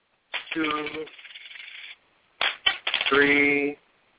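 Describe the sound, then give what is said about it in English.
Four cents in coins dropped onto a hard surface in two bursts, each a bright metallic clatter with a ringing, rattling tail as they settle. A pause separates the two bursts. “How the hell am I going to deposit 4 cents and then send it to Tiff?”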